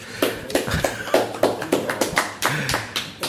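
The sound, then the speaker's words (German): Applause from a small group for four cyclists who have completed their first 50 kilometres as the last lap begins, at 11 a.m. on Wednesday, 7 August 2019: sharp hand claps arriving in a quick, uneven patter that keeps going steadily throughout, with no talking over it. “Hört ihr auch den Applaus?”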